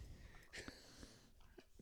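Heavy, snuffling breaths come in a few short, raspy bursts, wheezy and slightly snorting, fairly faint against a low background hum, with no one talking.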